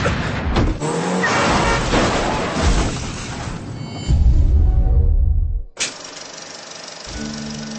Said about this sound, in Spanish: ¡No! ¡Es un coche de policía!